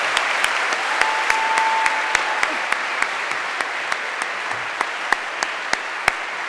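A crowd applauds steadily for several seconds in Sanders Theater at Harvard, a round of applause for Dean Fitzsimmons and the admissions officers: a dense wash of clapping with a few sharper individual claps popping out at an even, rhythmic pace.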